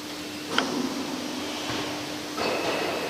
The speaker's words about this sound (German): Das war die Fallbremse.